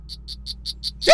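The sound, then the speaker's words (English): A poison frog named Lenny calls in five evenly spaced, high, buzzy chirps over a low hum, followed at the end by a sudden louder, harsher burst of sound. “Isn't that the poison frog?”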